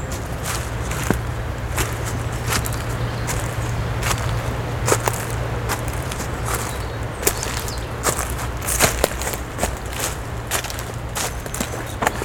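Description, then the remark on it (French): Footsteps crunch and rustle through a carpet of leaves on a waterlogged trail in the Estérel massif, France, irregular and fairly crisp, with a steady low hum running underneath throughout. “Tapis de feuilles.”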